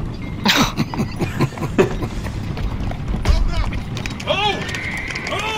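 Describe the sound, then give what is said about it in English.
A rush of horses galloping as an army of riders approaches from the northwest, with dense, rumbling hoofbeats and clatter building, joined by loud shouting voices and a sharp whinnying cry near the end. “riders from the northwest.”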